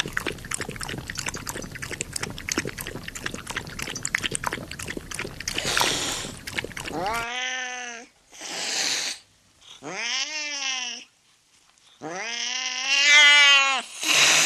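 A cat lets out about four drawn-out, wavering, loud meows after several seconds of steady rustling, watery noise with no voices.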